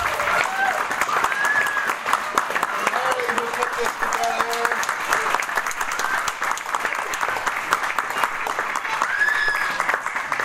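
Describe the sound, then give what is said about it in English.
Sustained applause from an audience for a group of kids, dense steady clapping for about ten seconds with occasional cheers and whistles rising above it, fairly loud. “Let's have another round of applause for these kids.”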